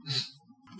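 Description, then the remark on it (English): A single sneeze: a sharp, hissy burst with a throaty low edge, then a brief quiet gap and a softer breathy rush of air. No one speaks. “That was a sneeze.”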